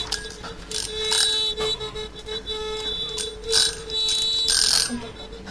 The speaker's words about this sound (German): Ah, es hat geklingelt! Aus. Ich bin wieder vorbei, die Zeit ist schon wieder vorbei.